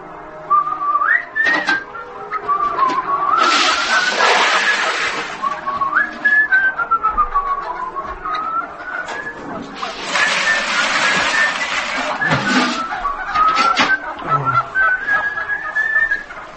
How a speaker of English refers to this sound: Get them off, please. Please, I can't stand it. Hate birds, you see.